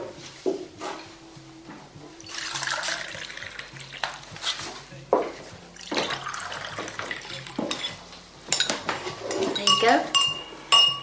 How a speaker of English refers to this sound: Kettle's on. Cup of coffee.